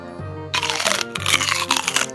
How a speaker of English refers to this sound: Peter is taking a big bite of the carrot.